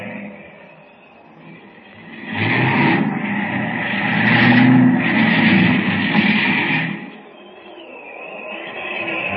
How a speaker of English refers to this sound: Look, the plane's going to land. There he goes.